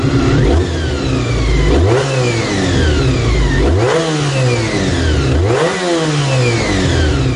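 The V4 engine of a Honda NC30 motorcycle, with cam-driven gears, revs high and blips up and down in three or four sharp surges, each rev climbing steeply then dropping, loud with a raspy, whining tone and no talking.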